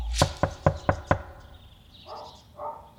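Five firm knocks on a door in quick, even succession, loud, followed by faint indistinct rustling or voices in the background. Six men, three homicide detectives, two people from the Danish Nature Agency and a police photographer, knock at a house door in Vedbæk.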